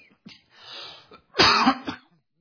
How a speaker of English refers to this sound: Pause for a minute here. I do have a bad cough.